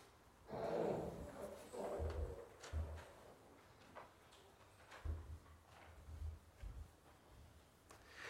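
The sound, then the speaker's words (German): Irregular hollow clip-clop knocks like horse hooves, made with a toy horse held in the hand, a scattered series of moderately loud taps over a low rumbling background, with no one speaking. “In meiner Hand halte ich ein Spielzeugpferd.”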